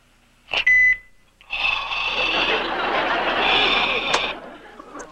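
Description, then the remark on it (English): A single short, high-pitched answering machine beep sounds clearly, then a loud, rough burst of noisy, jumbled sound continues for several seconds. “Please leave a message after you hear the beep, and I'll return your call.”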